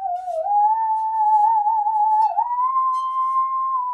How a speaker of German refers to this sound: seit 2,5 Jahren spiele ich singende Säge